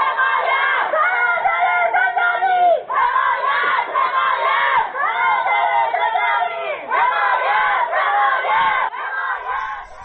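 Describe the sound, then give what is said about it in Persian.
A group of women prisoners in Ward 5 of Evin prison chanting together in loud, rhythmic bursts in protest at the prosecutor's action, calling on male prisoners in Wards 4 and 6 to join, the shouts rising and falling in repeated phrases with brief pauses between them. “در پی این ممانعت گروهی از زندانیان زن در بند 5 با اعتراض به عمل دادستان خواستار همصدایی زندانیان مرد در بندهای 4 و 6 شدند.”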